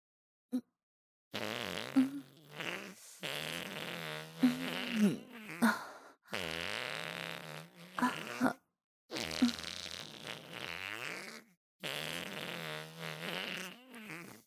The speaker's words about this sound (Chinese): 是啊，我因为肚子不舒服，所以才不停地放屁，现在越来越难受了。